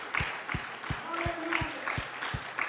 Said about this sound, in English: Clap your hands one more time and give him praise in this place.